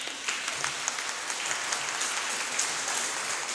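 audience clapping

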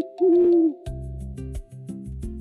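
owl hooting

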